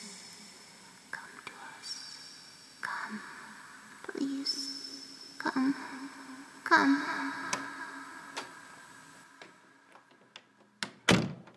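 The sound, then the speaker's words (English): A door creaks and thuds through a series of soft knocks and bumps, ending in a sharp close, while hushed whispering voices drift underneath. “Through the door to your right.”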